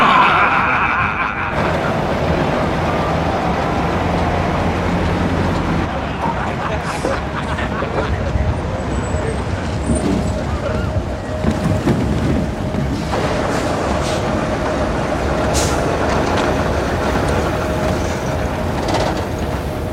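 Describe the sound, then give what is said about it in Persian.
A large Soviet-made industrial machine, as big as a house and built to cut apples into pieces, runs loudly and steadily, with a dense, clattering mechanical roar and a humming tone throughout; it burns 20 liters of fuel an hour. Faint voices may mix into the din. “یه ماشین ساخت شورویه که واسه 4 قسمت کردن سیب ساخته شده.”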